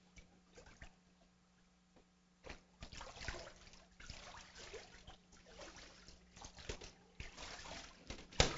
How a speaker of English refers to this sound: will be stepping into the water.